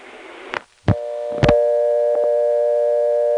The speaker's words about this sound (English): That dropped us right back to dial tone after it played twice.